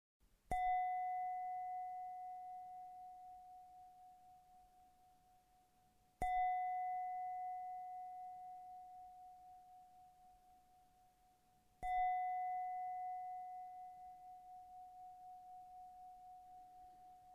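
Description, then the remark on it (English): A meditation bell is struck three times, about six seconds apart, each clear tone ringing out and slowly fading before the next strike. No one speaks. “You will begin after three rings of the bell.”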